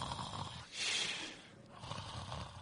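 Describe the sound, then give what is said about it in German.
A person imitates the snoring of someone who fell asleep during a church sermon: a raspy, rumbling inhale with a hissing peak, then quieter gravelly snorts trailing off, with no talking. “Und wann immer das passiert, und dieser Prediger, der mir das persönlich erzählt hat, dieser Pastor, dem ist das auch passiert, der hat also hat gepredigt und da ist jemand eingeschlafen, hat angefangen zu schnarchen.”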